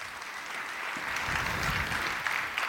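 An audience claps steadily, a dense wash of many hands that swells slightly after the first second and holds at a moderate level with no voices rising above it.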